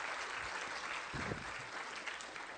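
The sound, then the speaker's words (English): A crowd at a church service claps steadily for a group of men, a dense wash of applause that stays at an even, moderate loudness throughout, with no one speaking over it. “Give my fellas a round of applause.”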